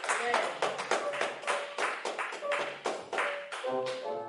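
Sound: audience hand clapping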